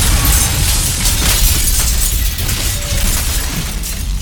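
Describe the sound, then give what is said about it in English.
The sound of a building's windows bursting and glass shattering, made vocally by a person rather than a sound effect: a loud, dense crash, with bright tinkling shards raining down over a heavy low rumble that stays steady for several seconds. “And the windows all burst.”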